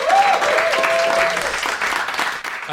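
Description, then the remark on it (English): A crowd claps steadily for Kerry Godliman in a dense, loud wash of applause that holds for a few seconds, with a faint whistle-like tone and a few voices rising over it early on. “Ladies and gentlemen, could you please give a massive round of applause to the fabulous Kerry Godliman?”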